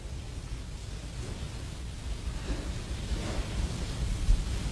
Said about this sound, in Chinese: 用这个雨声讲个故事给你听